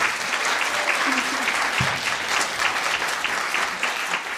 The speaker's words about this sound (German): Erstmal den Applaus, oder?